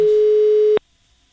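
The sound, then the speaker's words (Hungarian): A single steady electronic telephone ringing tone from the caller's end, loud, lasting under a second before cutting off abruptly into silence with no answer. “Nem hallja, és lassan ér oda a telefon. Ahogy csörök, tudom, hogy nő.”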